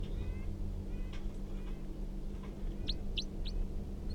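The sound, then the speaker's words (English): Short, high bird calls from bird 327 responding to the call of a wild bird: a few faint chirps early on, then three sharper rising notes in quick succession, set against a steady low hum. “That was 327, responding to the call of the wild bird.”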